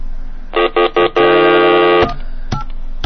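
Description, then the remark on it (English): Three short, evenly spaced telephone touch-tone dialing tones followed by one longer steady tone, loud on the line, then a couple of faint clicks, as a phone call is placed. No one speaks. “Okay, let's make another phone call. All right, let me flash it over here.”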